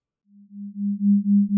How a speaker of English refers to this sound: are flat tones, but when heard together, your brain creates a rhythmic beat. This is your brain joining in and harmonizing. For example, if I play 50 Hz in your left ear and 55 Hz in your right, your brain will create a 5 Hz rhythm.